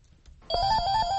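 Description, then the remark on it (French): A telephone starts ringing abruptly after a quiet moment, its bright electronic tone sustained and fairly loud, pulsing steadily over a low background rumble, in a room of Cameroon's National Anti-Corruption Commission in Yaoundé, where calls to a toll-free line reporting corruption are received. “Dans une salle de la Commission nationale anticorruption, le téléphone ne cesse de sonner.”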